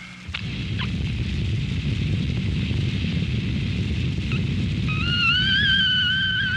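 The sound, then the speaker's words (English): Someone blows steadily into a portable breath tester to check blood alcohol, making a continuous rushing breath noise, and a wavering high-pitched squeal rises from the device near the end. No one speaks. “I've got the portable breath tester here.”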